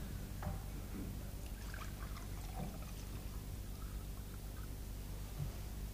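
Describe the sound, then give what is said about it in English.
Water being poured into a glass to be put on the table for a speaker, a soft steady stream lasting several seconds, fairly quiet against a low hum, with no one speaking. “Would you like, shall I put a glass of water just on the table for you?”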